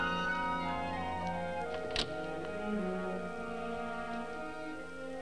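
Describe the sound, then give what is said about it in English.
A door opens with a single sharp click partway through, brief and fairly loud, set against a steady bed of sustained tonal sound that continues throughout, as a man enters the academy. “At the sound of the door, Martha comes downstairs.”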